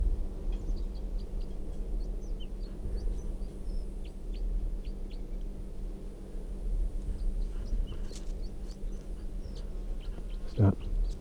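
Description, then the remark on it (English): Faint, high-pitched chirping notes of a wild, bright red male red crossbill with a right-crossing bill and yellow down the middle of its belly repeat in short bursts throughout, set against a steady low rumble, with one sharp knock near the end. “This wild bird is red, and it has a right crossing bill, and it has quite a bit of yellow right down the middle of the belly.”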